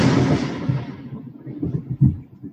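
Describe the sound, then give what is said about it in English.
A deep roll of thunder opens with a broad crack, then fades into a low, uneven rumble that swells again briefly near the end. No one speaks. “What's that? That was thunder.”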